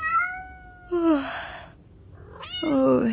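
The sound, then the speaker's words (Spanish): A cat meows loudly and insistently, several drawn-out, wavering cries in quick succession, with no one talking over them. “Amor, ¿le estás sirviendo de tu cereal al gato?”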